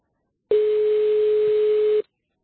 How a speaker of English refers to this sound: Hearing a phone ring.